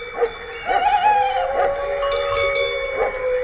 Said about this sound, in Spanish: Lejos, no era un peligro. Sí, está lejos, pero ladra el perro ya avisando. Pero ahí estaba, desde el corazón del conflicto, estaba aullando un lobo.